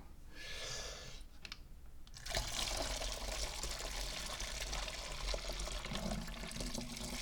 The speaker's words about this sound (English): Rinse the cup off.